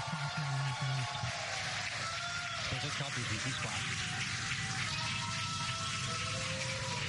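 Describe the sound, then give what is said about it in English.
A crowd cheers and applauds steadily as the Polaris Dawn spaceflight crew successfully splashes down, a dense wash of clapping and shouting voices that holds at an even, fairly loud level for several seconds without pause. “As you can see on your screen, and by the cheers behind us, the Polaris Dawn crew has successfully splashed down.”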